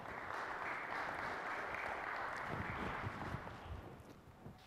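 A crowd applauds with dense, steady clapping that holds strong for several seconds before thinning out slightly toward the end. No one speaks over it.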